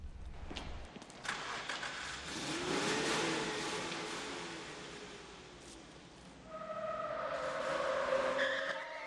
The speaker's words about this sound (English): A black pickup screeches around a corner and heads straight for Cash.